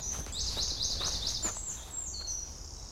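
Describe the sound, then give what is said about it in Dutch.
Small birds chirp and trill in rapid bursts in the background over a low rumble of outdoor ambience, in an immensely calm, quiet setting. The high twittering repeats across the scene with no one speaking. “Ik moet zeggen, Ben, dat hier in Tivoli Road, zoals wij dat geluid op de achtergrond horen, de vogeltjes, de immense rust.”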